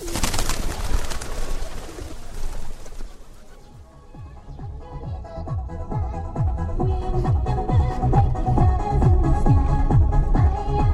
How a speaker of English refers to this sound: our guide and translator, hands us seed to feed the pigeons, an exercise for good karma.